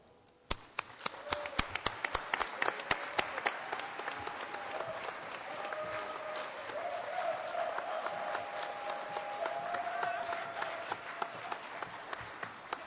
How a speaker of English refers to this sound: I would like to welcome and ask for a round of applause for our new members and positions.